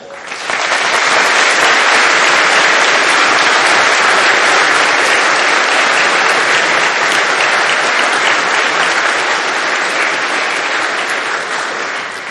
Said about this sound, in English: Hey, that must have felt good to get all that applause, huh?